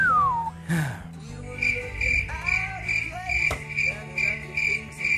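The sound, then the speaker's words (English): A cricket chirping sound effect: a steady, evenly spaced series of short, bright pulses that carry on for several seconds, set against a faint background of other soft tonal noises. “Where's the cricket sound?”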